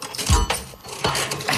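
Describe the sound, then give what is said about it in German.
The arm of an unusual question-dispensing machine in a studio is pulled, giving two sharp mechanical clunks about three quarters of a second apart, with metallic rattling and clinking between them and no voices. “Okay, also, zieh ich mal hier an dem Arm.”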